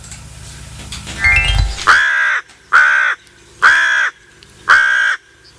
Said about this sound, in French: Alors là, c'est un corbeau qui nous faisait l'annonce